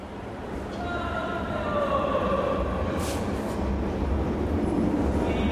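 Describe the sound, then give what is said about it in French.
Steady, dense rumble of the Vukov Spomenik underground train station in central Belgrade, Serbia, with rail noise filling the space and a faint, muffled loudspeaker announcement drifting through. “Tableau d'affichage, escalator, annonce haut-parleur, la station souterraine de Vukovspomenik en plein centre de Belgrade a tout d'une station de métro et même le nom.”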